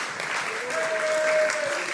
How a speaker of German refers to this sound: Ist ein Applaus wert, oder?